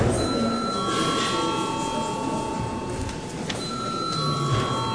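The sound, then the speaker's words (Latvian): A bell in the chamber of the Latvian parliament, the Saeima, rings continuously before deputies register their attendance, producing a steady high-pitched tone with harmonic bands throughout, over a low background rumble. “Paldies, lūdzu zvanu.”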